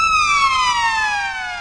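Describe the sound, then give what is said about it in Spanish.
A police siren wails loudly at the start of a music video, its strong harmonic tone sliding steadily downward in pitch over a low engine rumble, with no voices present. “Sirenas, mira policía.”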